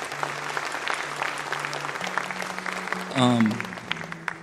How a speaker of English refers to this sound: Yeah, you can clap. It's fine, please.